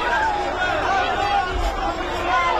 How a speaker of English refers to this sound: Cheers from Israelis watching on an outdoor screen in Tel Aviv